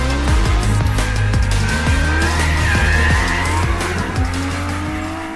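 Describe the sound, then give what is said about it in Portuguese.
A Lamborghini Huracán sports car roars loudly as it laps a racetrack, its engine revving hard through repeated gear shifts while the tires squeal, with no talking. “Mas enfim, chegou a hora de dar algumas voltas com esse carro lá na pista.”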